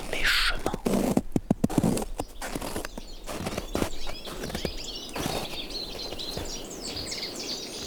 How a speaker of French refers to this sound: Une brise venteuse, un chemin, des arbres, des oiseaux.